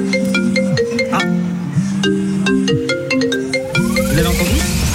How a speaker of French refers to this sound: C'est la sonnerie de l'iPhone 15, c'est l'alerte, inscription, vous en avez parlé, que vous entendez dès maintenant, c'est le moment.